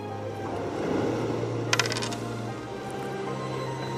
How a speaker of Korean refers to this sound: 그렇게 다시 외로운 일상으로 돌아와 지하철 부스에서 여느 때처럼 토큰을 받았다. 그런데 토큰 떨어지는 소리가 뭔가 달랐다. 토큰이 아니라 반지였고